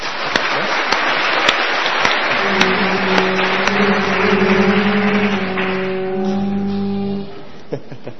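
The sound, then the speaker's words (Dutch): A church audience claps steadily in sustained applause for those who volunteer in the children's work, a dense crackle of many hands that fades out toward the end, with a low droning tone running underneath partway through. “Ik vind dat we daar eigenlijk wel een keertje een applaus voor mogen geven.”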